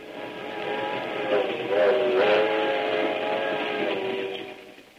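A steady rumble of a moving passenger train, with a continuous roar and faint tonal hum that shifts slightly midway, running evenly for the whole stretch without pause.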